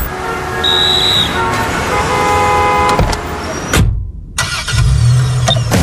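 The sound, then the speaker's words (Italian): Loud city traffic with engines rumbling and a car horn tooting. The noise cuts out briefly near the end, then the traffic roar picks up again. No one speaks. “Come faccio a sorridere anche nel traffico cittadino?”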